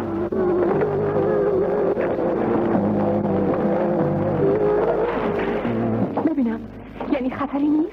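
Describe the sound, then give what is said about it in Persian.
A fast motorboat engine roars loudly and continuously, its droning pitch wavering and then dipping and surging again near the end as the boat speeds past. “بابا کی میتونه به همچین قایق موتوری سریعی برسه؟”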